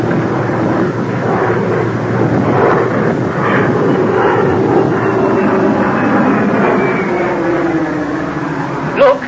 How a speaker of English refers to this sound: And the plane's about to take off, I'm afraid.